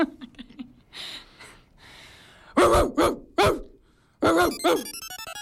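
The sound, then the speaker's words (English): A person imitates a dog for a bark translator, letting out a series of loud, throaty barks in short bursts, with some breathy huffs and yips between them before a final quick flurry of barks. “This is so, you want me to bark? I want you to bark, yep.”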